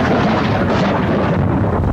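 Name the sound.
thunder rumbling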